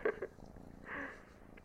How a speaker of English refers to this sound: Oh, and that's a noise that we didn't know you could make. It sounds an awful lot like purring. Are you happy, pretty girl?